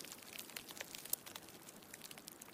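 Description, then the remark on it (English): Soft, dense crackling of a small crumpled saran-wrap ball slowly unfurling after release, used as film foley for a burning cigarette up close: an irregular stream of tiny high clicks and pops, like the sizzle of a burning cigarette. Quiet throughout, with no voices. “it actually sounds a lot more authentic if you take a small saran wrap ball and release it.”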